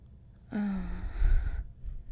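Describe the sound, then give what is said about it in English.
A single breathy, gasping whimper from a voice, its pitch sliding downward over about a second before trailing off into soft breathing. “These little gasping whimpers.”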